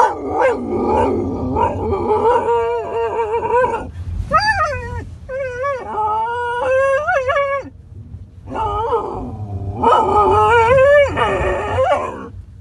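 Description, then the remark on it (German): A dog named Jasper howls and whines in a loud, agitated outburst: several drawn-out, wavering high-pitched cries with sharper yelping barks mixed in, broken by short pauses, with no one talking. “Das geht sogar so weit, dass Jasper das Auto von Ben schon anbellt, wenn er das nur sieht.”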